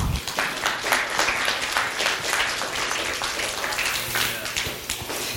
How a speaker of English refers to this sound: Clearly, yes, round of applause.